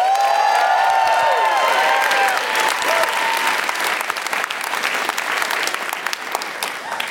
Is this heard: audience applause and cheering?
yes